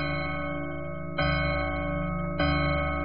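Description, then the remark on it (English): A clock chime strikes the hour in a Cinderella stage play, signalling that the witching hour is nigh, with deep, resonant bell tones ringing out at a slow, steady pace, each strike blooming over the lingering hum of the last. “Madam, the chimes! The witching hour is nigh.”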